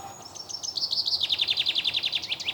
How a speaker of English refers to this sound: The chaffinch singing away right beside me. Let's have another listen to him.